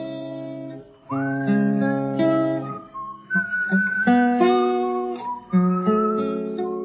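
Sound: whistled melody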